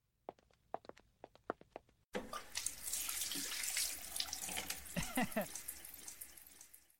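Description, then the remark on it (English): A few sharp knocks and clicks, then a tap opens and water gushes steadily into a sink with splashing and sloshing as someone washes up before dinner, in an audio play; no voices. “Go wash up.”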